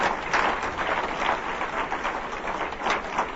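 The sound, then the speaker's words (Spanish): An audience applauds for Jesus, dense overlapping clapping that holds steady and fairly loud for a few seconds, with no voices rising above it. “Un aplauso a Jesús.”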